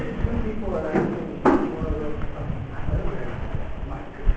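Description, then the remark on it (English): A door swings shut with a single solid thud partway through, set against a steady murmur of voices and room noise. “Can somebody please close the door?”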